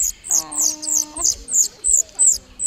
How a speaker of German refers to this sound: Die Eltern piepen da oben und dann hoffe ich, dass sie den weiter füttern.